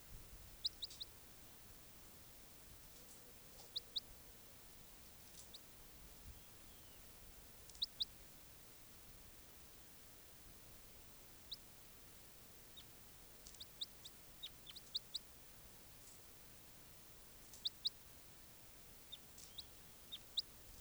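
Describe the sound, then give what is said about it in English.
Short, high-pitched bird calls, including a type 3 call from bird 591, sound in brief pairs every few seconds over a faint, steady background hiss, sometimes answered by a second bird. No one speaks. “That weird call was 591. Sounded like a type 3 call.”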